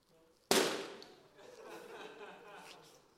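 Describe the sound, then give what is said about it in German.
A single sharp, loud pop of a balloon bursting cuts in suddenly, followed by excited laughter and chatter from several people. “Irgendein ist verplatzt.”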